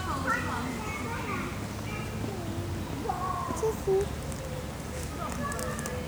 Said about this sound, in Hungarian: Cici, cici, cici. Kis cica. Cici.